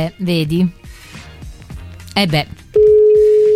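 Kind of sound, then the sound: signal or alarm, outgoing phone call ringing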